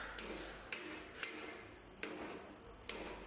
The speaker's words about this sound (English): And here we have the copper market, one of the attractive sections of the bazaar, in my opinion. Yes, the familiar sound of hammers on copper.